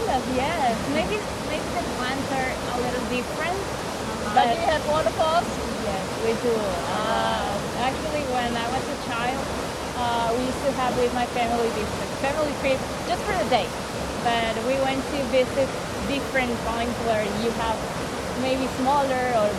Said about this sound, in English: But though sometimes caused by turbulence, the atmosphere surrounding a waterfall often brings a sense of awe and peace to those who visit.